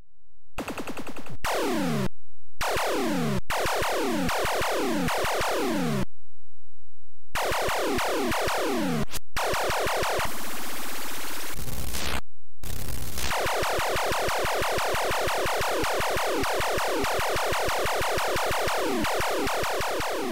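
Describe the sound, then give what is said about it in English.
Rapid, repeated retro video game laser zaps and electronic beeps fire in dense bursts, broken by short silences, with a noisy rumble of a volcano eruption in the middle. Loud, with no voices or music. “Unfortunately, just lots of beeps, some explosions, the volcano eruption, but no music and nothing else too impressive.”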